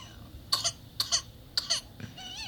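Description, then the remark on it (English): A baby with whooping cough coughs in three quick, hacking bursts, each a pair of harsh coughs, then draws a strained, high-pitched whooping breath while struggling to breathe. The sound is fairly quiet and no one speaks. “Aw, baby struggling to breathe.”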